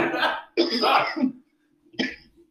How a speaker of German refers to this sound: Oh, ich muss sogar noch ein bisschen husten vor der Schicht.